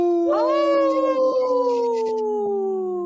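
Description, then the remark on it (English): On a radio show, a person imitates a wolf, howling the word "no" in one long sustained howl that rises quickly at the start, then holds a steady, slowly falling tone for about three seconds. It is loud and clear, with no other sounds. “See how I said no? Yeah. In a howl?”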